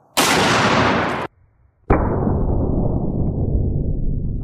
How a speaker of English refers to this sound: So when I pulled the trigger, the gun exploded almost immediately. So the first thing that went was this cap. The threads are sheared off of this gun completely.